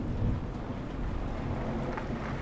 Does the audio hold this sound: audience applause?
no